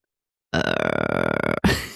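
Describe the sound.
An attempt at throat singing: one low, croaky, buzzing drone held for about a second with rattling overtones, then cut off by a short, abrupt vocal burst. No words are spoken.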